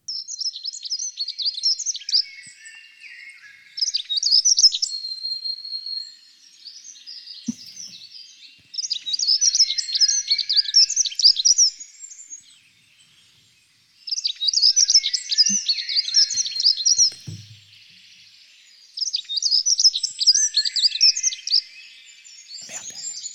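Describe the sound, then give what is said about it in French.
A dunnock, a small songbird, delivers repeated bursts of fast, high, jangling warbles, each a few seconds long with short pauses between, while a blackbird sings faintly in the background; recorded by Pierre Huguet. “Donc, c'est Pierre Huguet qui a toujours enregistré cet accenteur mouchet.”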